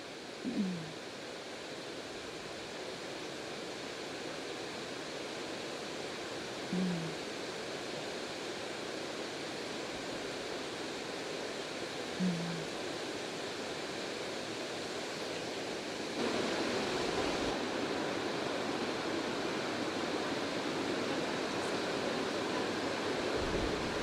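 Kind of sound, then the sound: nature, rain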